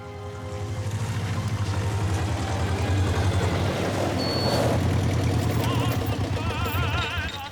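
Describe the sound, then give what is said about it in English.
A yellow dumper truck's diesel engine chugs loudly and steadily as a grave digger pulls up in a graveyard, its low rumble filling the whole stretch, with faint birdsong audible in the background toward the end. “One of the grave diggers, a ginger-haired young man, pulls up on a yellow dumper truck.”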